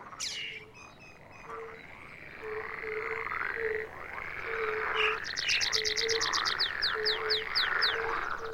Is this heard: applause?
no